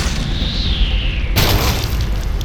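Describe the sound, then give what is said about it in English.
A hunk of cement the size of a bowling ball drops from above with a faint descending whistle, then slams down in one heavy, booming crash that dissolves into a loud, rumbling wash of debris. “A hunk of cement the size of a bowling ball drops from above.”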